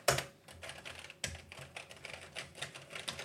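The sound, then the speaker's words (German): Clacky, uneven keystrokes on the keyboard of a vintage Schneider CPC home computer, with a couple of louder hits among a steady patter of typing and no voices. “So muss sich eine Tastatur anhören.”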